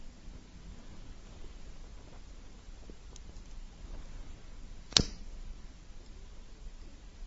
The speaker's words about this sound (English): What was that sound? I will do it again for you. Listen very carefully. The lighter. Very good. The lighter.